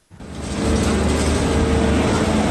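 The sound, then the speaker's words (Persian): Heavy diesel engines of loaders rumble steadily during the search for the bodies of killed hostages in the Gaza Strip, a loud low drone with a faint whine and clanking texture, rising quickly at the start and holding constant. “صدای لودرها در عملیات جستجو به دنبال اجساد گروگان‌های کشته شده در نوار غزه.”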